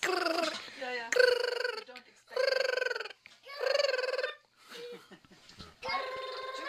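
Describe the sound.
People imitate an eagle's call with a series of high, squeaky, wavering cries in short bursts, separated by brief pauses, with bits of laughter and voice between them.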